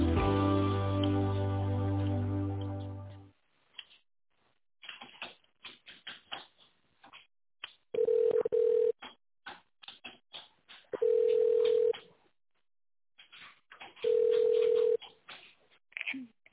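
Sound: telephone ringback tone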